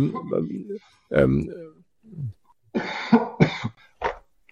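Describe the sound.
A person's habitual cough: a loud bout of coughing, several harsh, irregular bursts separated by brief pauses, with some throaty, voiced rasps mixed in.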